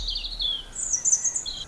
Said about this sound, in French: Les oiseaux, ils font donc des chants pour marquer leur territoire. Là, par exemple, vous avez la jolie strophe d'un rouge-gorge qui chante.